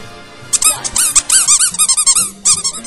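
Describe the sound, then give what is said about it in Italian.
A toy trumpet squeaks out a rapid string of shrill, wavering toots, each bending up and down in pitch, loud and alone for about two seconds before trailing off. “Adesso vi passo la nostra amica e il nostro amico, la trombetta qua.”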